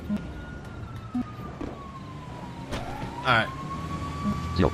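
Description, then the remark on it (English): A fire truck siren wails steadily, sliding slowly down in pitch and then rising again, heard over a low rumble with a few brief knocks and rustles. “That fire truck's about to get ready.”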